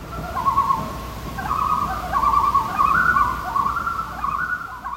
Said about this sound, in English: sent us some loons from the cabin where he grew up.